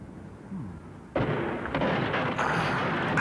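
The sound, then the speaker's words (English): After a second of low, quiet rumble, a sudden explosion bursts in as it hits the ground, followed by a sustained, loud roaring and crackling that builds slightly toward the end. “Did you see the force of that explosion as it hit the ground?”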